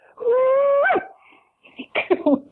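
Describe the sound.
A single loud Australian bush cooee call from a human voice: one long sustained note that swoops sharply upward at the end, followed by a pause and then brief chatter.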